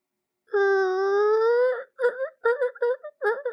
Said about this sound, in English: Those were the double swinging doors. I just thought I'd put that out there.